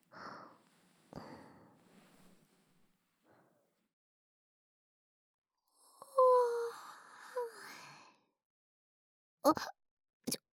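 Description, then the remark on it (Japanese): A soft breathy exhale, then a long voiced yawn that stretches and wavers in pitch for about two seconds, followed by a couple of short sharp clicks. “今あくびしてるところ見たよね。”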